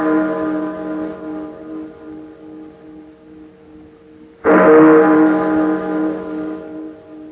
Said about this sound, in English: I've been caring for these chimes nearly 20 years now. And this is the first time I ever known them to ring late. And on Christmas Eve, too.